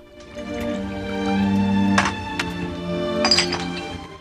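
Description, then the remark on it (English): Two champagne glasses clink together in a few bright, ringing chinks over a low sustained tone, with a sharp strike near the middle and a cluster of lighter taps toward the end. “He offers Ava a glass, then chinks his glass against hers.”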